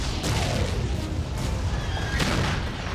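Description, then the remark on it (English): Heavy cannon blasts boom a few times over a dense, continuous rumble, loud, with no talking, like a battle under way: a cannon bombarding a hotel in Lawrence. “Their finale was to bomb a Free State hotel with a cannon.”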